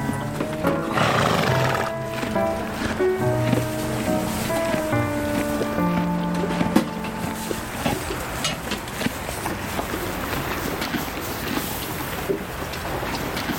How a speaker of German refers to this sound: Dieses laute Kauen gehört, Tandy? Das war total laut. Riesige Zähne. Ganz sicher. Auf jeden Fall ein Pferd.